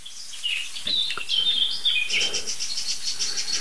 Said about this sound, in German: Und der Auslöser muss dort sitzen. Ob das jetzt der gleiche Greif ist, das können wir nicht sagen, weil was die Vögel uns sagen ist, hier ist ein lokaler Alarm und ich sehe ihn. Also hier ist eine lokale Gefahr.